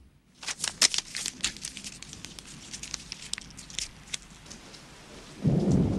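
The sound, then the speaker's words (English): Steady rain patters with sharp, irregular drops and splashes, then a deep rumble of thunder rolls in loudly near the end. No voices are present. “He throws the note aside, then catches his reflection in the window ahead of him, which is streaked with rain.”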